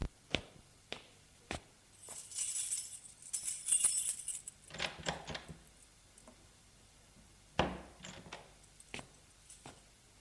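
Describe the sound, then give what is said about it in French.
Keys jangle briefly, followed by a series of sharp clicks and metallic clunks from a lock and latch as the front door of a country house is opened, with scattered knocks and no speech. “Ouvrons la porte de la maison.”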